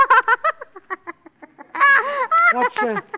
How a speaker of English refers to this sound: He looks like a duck. He is a duck.